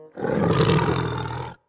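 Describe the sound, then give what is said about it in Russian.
A single deep, growling roar of a mother bear in a forest, loud, sustained for about a second and a half before cutting off, with no talking around it. “Мама медведица”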